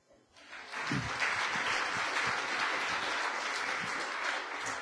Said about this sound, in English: Okay, thanks. One big applause.